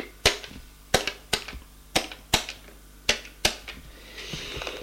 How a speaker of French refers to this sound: Là, il prend le téléphone, fait le numéro